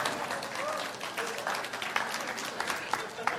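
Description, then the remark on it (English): A crowd applauds steadily for a few seconds for an audience member who found a Nine of Diamonds card under her seat during a magic show, a dense wash of many hands clapping at once, with a few sharper claps standing out and some voices mixed in underneath. “Clap for her.”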